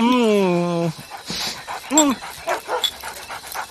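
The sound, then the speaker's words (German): A dog begging for cake lets out a long, drawn-out whine that slides downward, followed by a shorter whimper and quick, breathy panting. “Aber du bekommst nachher leckeres Hundefutter.”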